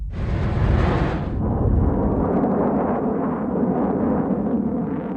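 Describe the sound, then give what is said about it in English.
A Delta II rocket engine ignites and lifts off, launching the Mars Exploration Rover Spirit, with a deep, continuous roar, a broad crackling rumble that stays loud and steady throughout, its brighter upper edge softening after the first second. “Engine ignition and liftoff of the Delta II rocket with the Mars Exploration Rover.”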